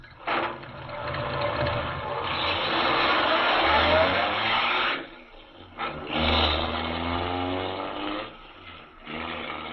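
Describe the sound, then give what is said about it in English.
A car engine revs and accelerates with a rising, roaring note, briefly drops off, then surges again before fading, loud with no voices, as Major Carroll's car speeds away from the inn. “Speeding away from the inn, Major Carroll is unaware that the wily Gottfried has sent him on a false trail, and that a few hours' delay in discovering the secret tunnel under the inn may mean the difference of life or death to Superman.”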